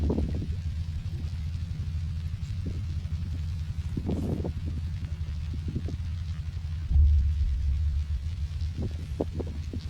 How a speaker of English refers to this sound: Hear birds and motorboats, and there's quite a lot of seagulls dropping clams onto the ground to break them, which is something I hadn't seen before.